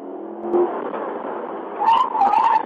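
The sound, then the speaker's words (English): A police car's engine roars steadily, rising in pitch as it accelerates hard toward the rear of a restaurant, recorded on the car's dash cam, with a brief tire squeal or whine near the end and no voices. “Dash cam footage from Lieutenant Tiller's car. He speeds to the rear of the restaurant.”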